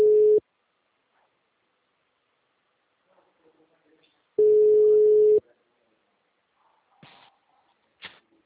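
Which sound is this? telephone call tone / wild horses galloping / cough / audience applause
telephone call tone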